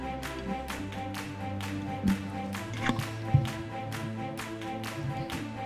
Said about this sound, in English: Can you clap? There you go.